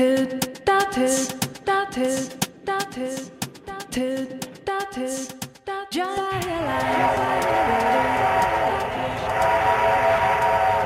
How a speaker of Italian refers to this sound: e allora dove ci porta questo piccolo viaggio in treno?